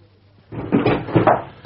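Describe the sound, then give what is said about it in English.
A door is pushed open as someone enters without knocking: after a quiet moment comes about a second of rough, scraping handle-and-hinge noise rising in a couple of surges, ending with a sharp click. No voices. “You're not heard of knocking?”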